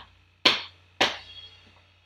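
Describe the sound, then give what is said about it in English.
Three sharp, plasticky slaps by hand on a pad of a Roland TD-25KV electric drum kit in a flat, unevenly spaced, each a crisp thwack with a quick fading tail, heard alone over a faint low hum. “I mean, that just sounds like you slapping a bit of plastic.”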